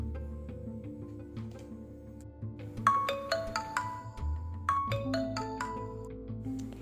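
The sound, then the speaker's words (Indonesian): A mobile phone ringtone signalling an incoming message notification plays a bright, repeating melodic jingle of quick tonal notes over a steady low backing, moderately loud, with no voices. “Ringtone ponsel berbunyi.”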